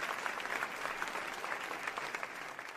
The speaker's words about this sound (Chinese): 很多人跟着喊法轮大法好，并伴随着热烈的掌声。